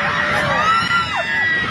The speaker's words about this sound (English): That's what it sounded like on a plane. Severe turbulence forcing a Scandinavian Airlines flight to head back to Europe on Thursday. It was bad. There were screams in the sky and the sounds of items crashing when passengers captured the chaos